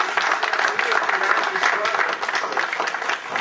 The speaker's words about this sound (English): A round of applause for our speaker